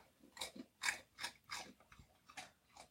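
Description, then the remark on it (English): A dog crunches and chews potato chips from a bag of chips it stole: a run of about seven crisp, crackly bites in an uneven rhythm, each a quick bright snap followed by softer munching, with no talking. “My dog apparently thieved a bag of chips, which is fine.”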